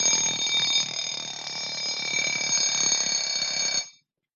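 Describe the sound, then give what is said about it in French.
A loud alarm clock rings continuously with a bright metallic jangle for about four seconds, then cuts off abruptly into silence. No voices. “C'est un peu ringard, hein, le réveil, mais je trouve qu'il est joli.”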